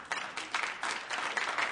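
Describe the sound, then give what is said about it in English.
A short burst of scattered audience applause, a dense patter of hand claps at steady moderate loudness that stops almost as soon as it begins. “That's all the applause I get?”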